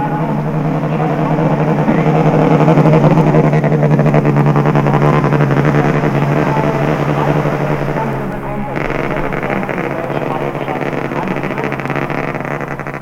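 German rider Peter Eser's Honda Production Racer motorcycle passes during a race with a stuttering engine, roaring loudly for several seconds, its rough, uneven drone faltering briefly before carrying on at full volume.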